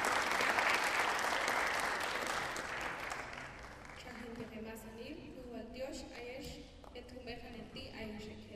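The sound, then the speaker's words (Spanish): An audience applauds a sister about to present on the good living in the view of the Mayan women of Huehuetenango, with dense, steady clapping that is loudest at the start and gradually thins out, while a voice begins speaking over the fading applause. “poner un aplauso a la hermana para poder continuar el trabajo.”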